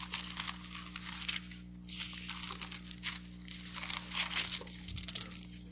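Several people rustle and flip through thin Bible pages at once, looking up John 6:44, a continuous papery crinkling that swells and fades in waves over a faint steady hum, with no one speaking.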